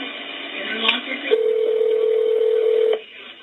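Telephone tones over a phone line as fire department dispatchers place a callback to a caller: a short beep, then a single steady tone held for about a second and a half, with faint background noise around it.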